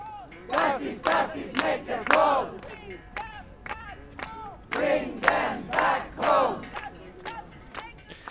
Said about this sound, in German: Vor Ort waren mehrere hundert Personen, es gab einige kurze Reden und es wurden Parolen skandiert.